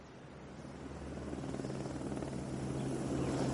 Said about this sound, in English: I do believe she's coming! There's the helicopter! She's coming! Look, she is!